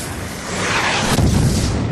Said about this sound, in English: The rocket hit the vessel amidships, punching through the hull and detonating. Torn to pieces, the deck lifted off the gunwale as the boat was blown apart, men and machinery spewing outward in a geyser of destruction.